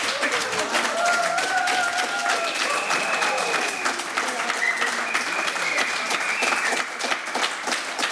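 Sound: studio audience applauding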